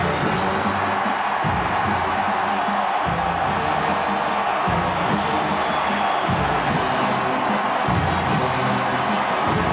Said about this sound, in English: He struts to the tuft of grass marked out by the drum major, and then he bows to the crowd, and everyone screams.